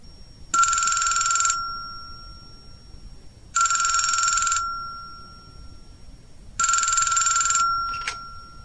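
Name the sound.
telephone ringing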